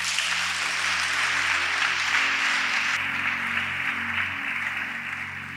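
An audience breaks into sustained applause for Jesus, a dense wash of many hands clapping steadily for several seconds at a loud, even level before beginning to taper slightly.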